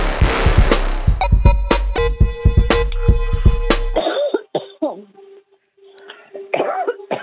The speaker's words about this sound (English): Cough it out, girl. Listen, you're choking it up.